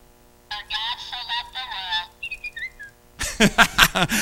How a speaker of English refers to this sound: Oh, I interrupted. It was whistling, too.